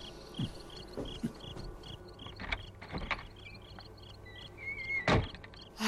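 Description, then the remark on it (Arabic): A house door is shut and locked, with a series of sharp clunks and rattling clicks, while crickets chirp steadily in the background. A final louder thud lands near the end. “طيب أين أنت ذاهب يا حاج؟ لأغفل باب البيت.”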